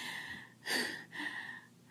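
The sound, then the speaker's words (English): A sharp, breathy gasp for air after being smothered, followed by a second softer, airy breath, with no voices present. “I love hearing you gasp for air.”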